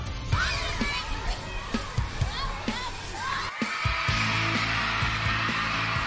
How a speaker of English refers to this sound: Just, you know, the excitement they brought walking in that gymnasium, they were intense. I mean, that's like a Gillette Stadium crowd right there.